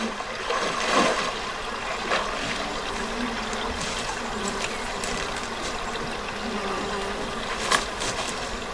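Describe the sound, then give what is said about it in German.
A sound-effects scene of people at a lake: a steady outdoor wash of trickling water with a buzzing insect drone, broken by a few soft, dry rustles of bare feet stepping on dry grass. No one speaks. “Man hört Wasser, man hört das Laufen auf dem eher trockenen Gras.”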